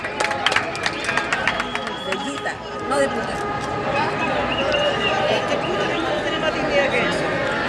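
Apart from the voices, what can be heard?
protest crowd shouting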